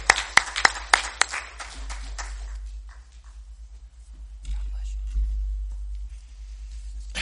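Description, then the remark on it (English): Church audience applause welcoming the Senior Adult Ministry Director as he comes up to preach in a morning service, a burst of loud clapping with sharp individual claps standing out, tapering off within about two seconds into quiet shuffling over a low steady hum. “And so may you give him a warm applause as he comes up and gives the Word of God this morning.”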